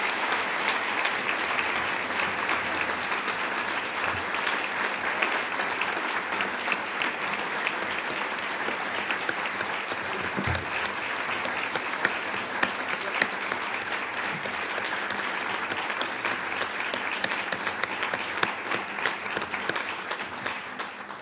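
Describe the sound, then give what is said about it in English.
A large audience in San Francisco applauds steadily after a presentation by David O'Reilly, Chairman and CEO of Chevron Corporation, a dense wash of many hands clapping at once that holds a constant level for about twenty seconds, with no voices heard over it. “Let's have a round of applause, and thanks very, very much to David.”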